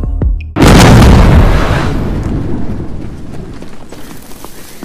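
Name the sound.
explosion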